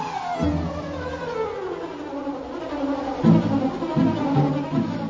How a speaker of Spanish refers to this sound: Por esta razón es que abundan por millones colonias de abejas. ¡Zum!